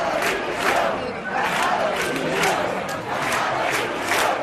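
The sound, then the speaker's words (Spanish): A crowd of 3,000 to 4,000 people outside the party headquarters in Madrid chants and shouts in unison, a loud, continuous roar of many voices rising and falling in rhythmic swells roughly every second. “Sí, que fueron entre 3.000 y 4.000 y que con sus cánticos y gritos dejaban claro de qué parte estaban.”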